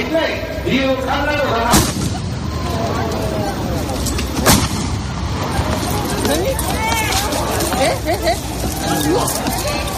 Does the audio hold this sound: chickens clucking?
no